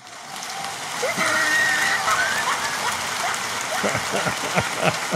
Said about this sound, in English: Big Rig mixing the applause with the laugh track. That's awesome.